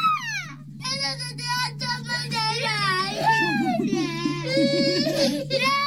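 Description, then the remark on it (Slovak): Two young children cry and wail at once at home, their high, wavering sobs overlapping and rising and falling continuously, loud, with a steady low hum underneath. “Taký klasický deň u nás doma, lebo dve deti plačú buď naraz, alebo na preskačku.”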